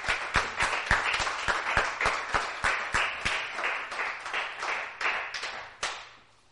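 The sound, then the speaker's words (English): An audience at a church service applauds and cheers for the Lord in a steady wash of clapping, with a few sharp, loud individual claps cracking through, before the applause tapers off at the end. “Give the Lord a cheer, folks.”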